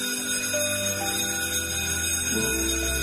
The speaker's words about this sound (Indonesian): Bel sudah berbunyi. Kita sudahi kelas kita hari ini.